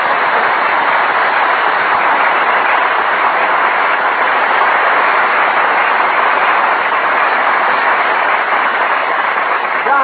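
A steady, continuous rumble of a train rolling along the rails, loud and unbroken throughout, with no clear voices over it.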